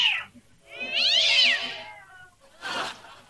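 Cats fight on the roof above a bakery, yowling and caterwauling: a long, wavering, high-pitched howl rises and falls, then breaks into a harsh hissing spit. Loud, with no voices.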